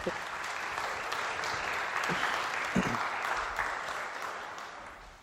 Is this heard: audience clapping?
yes